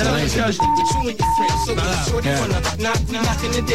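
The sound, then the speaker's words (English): Two steady, mid-pitched electronic beeps, each about half a second long, sound one after the other over busy recorded music with a strong beat, like a phone tone mixed into a track. “You know the beeping on this record, it says something and said on phone in the studio.”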